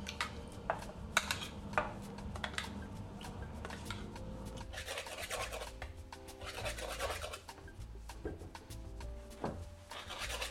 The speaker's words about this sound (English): It's the very East London tradition of making pies and mash.